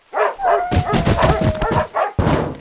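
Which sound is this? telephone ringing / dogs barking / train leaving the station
dogs barking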